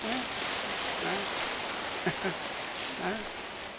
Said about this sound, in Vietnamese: Quý mà, đáng tán thán, đáng cho một tràng pháo tay thật to.